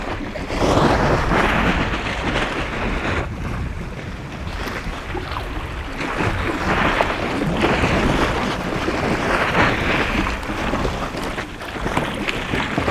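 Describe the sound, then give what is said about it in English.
Water laps and sloshes steadily underneath the overhanging ice of an iceberg, a continuous rushing wash swelling and easing in soft surges, with wind buffeting the microphone throughout and no voices. “You can hear the water that laps underneath the ice.”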